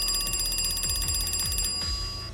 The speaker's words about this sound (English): Not long after the first call, the phone rings again.